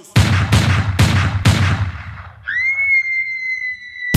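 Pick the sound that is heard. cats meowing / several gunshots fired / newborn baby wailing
several gunshots fired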